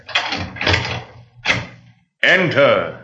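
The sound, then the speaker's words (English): A few rough rattling thumps, then after a brief silence a long, loud, wavering creak as a door swings open. “Gentlemen, open the door, please.”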